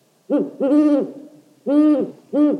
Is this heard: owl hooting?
yes